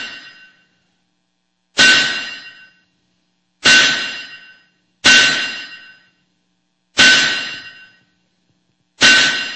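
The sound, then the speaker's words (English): A hammer strikes metal spikes in slow, uneven blows, five sharp clanging hits, each ringing out and fading before the next, with no voices. A soldier grips the hammer, driving spikes at the crucifixion. “He had Pilate, he had the soldiers, he had the beating, he had the cross, three spikes on the calloused hands of a soldier gripping a hammer.”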